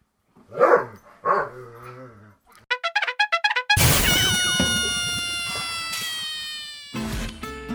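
Two short dog barks sound back to back, followed by a quick run of chirpy rhythmic blips and then a bright, ringing musical sting that fades out.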